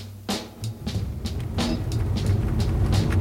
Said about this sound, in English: Myrna's driving her mail truck, pedals in the passenger seat, twisted around, digging through mailbags behind her.